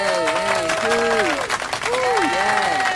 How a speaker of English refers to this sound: A round of applause, if you please.